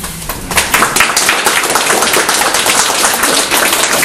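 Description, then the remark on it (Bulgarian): Sustained audience applause at a meeting, given as approval of a telegram, fills the whole stretch: a dense, steady crackle of many hands clapping at a fairly loud, even level, with no voices on top. “Да приемем ли вашите ръкопляскане като желание и утвърждаване на тази телеграма.”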